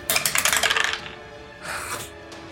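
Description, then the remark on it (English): A die clatters across a hard tabletop in a quick run of rattling clicks and lands on a 6, then a softer second tumble follows after a short pause. “because that was a 6 on the die, so that ain't doing squat.”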